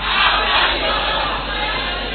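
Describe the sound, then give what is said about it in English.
A large church audience, holding their neighbours' hands during prayer, shouts together in one loud, sustained roar of many voices, swelling briefly at the start and then holding steady with no single voice standing out. “Hold the hand of your neighbor and shout the last on the list.”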